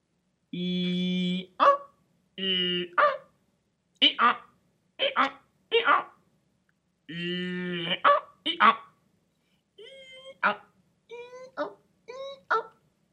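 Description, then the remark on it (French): A person imitates a donkey's bray, alternating drawn-out nasal tones with sharp bursts in repeated hee-haw cycles, fairly loud, with no other talking. “Et l'âne?”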